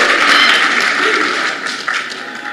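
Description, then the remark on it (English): An audience claps steadily for a couple of seconds during a sermon, a dense, bright wash of many hands that stays fairly loud before tapering slightly toward the end. “Those that are not clapping, you are saying you are something.”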